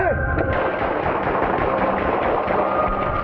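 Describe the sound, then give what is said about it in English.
Rapid gunshots crack through a dense, continuous wall of harsh, muffled noise, the bursts running together over about three seconds with no clear pause between them; reported as shots fired at 8500 East 41st Street, an extended stay. “Wind 236, hold traffic, shots fired.”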